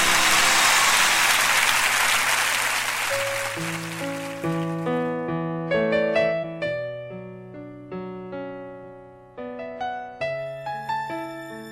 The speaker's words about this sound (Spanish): ¡Fuerte el aplauso para María!